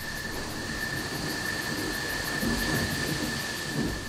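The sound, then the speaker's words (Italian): Low, rolling thunder rumbles steadily for a few seconds beneath a broad hiss of rain, swelling slightly toward the end without any sharp crack. “lo scroscio della pioggia, il tuono.”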